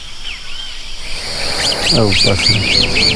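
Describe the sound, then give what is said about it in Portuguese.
A black-capped donacobius (japacamim) calls in answer to a man's call, with a quick series of repeated, rising-and-falling whistled notes, joined briefly by lower, rougher notes, loud over a steady hum of insects. “Esse é o Japacamim. Sempre que eu chamo, ele aparece.”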